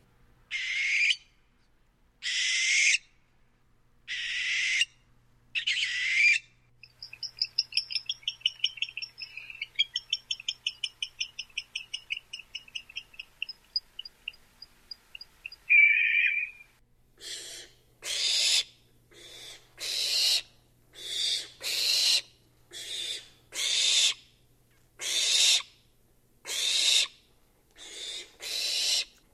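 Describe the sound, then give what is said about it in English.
Barn owls give eerie, raspy screeches, a steady run of harsh hissing bursts roughly a second apart, broken midway by a stretch of rapid, higher twittering calls. No one speaks. “Listen to their eerie, raspy calls, quite unlike the hoots of other owls.”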